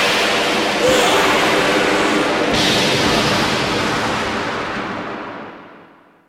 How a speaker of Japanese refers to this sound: これがとどめだ。魔法皇帝の名のもとに皇帝自らが命じる。天界の雷よ、すべてを滅ぼせ。